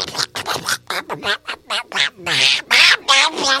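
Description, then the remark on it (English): A raspy Donald Duck cartoon voice, played on a radio broadcast, jabbers in a rapid, loud, unbroken string of quacking syllables, a human voice imitating a duck's squawks. “Yeah, for some reason, Donald Duck was on there, and I'm not really sure why.”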